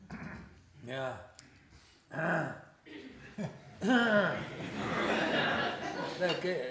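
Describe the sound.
Someone clears their throat with a few rough, guttural rasps, mixed with soft chuckling and voiced sounds, ending in a longer, louder vocal stretch.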